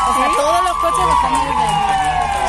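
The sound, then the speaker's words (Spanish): Police car sirens wail steadily outdoors at the doors of a hospital in Spain, sounded as police join the applause for doctors and health workers; a sustained high tone sweeping slightly, layered over a noisy crowd with voices and cheering in the background. “La policía se ha sumado en muchos lugares de España a los aplausos que cada día dedicamos muchos ciudadanos a los médicos y sanitarios, haciendo sonar las sirenas a las puertas de los hospitales.”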